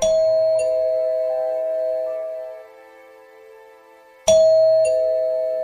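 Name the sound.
doorbell ding-dong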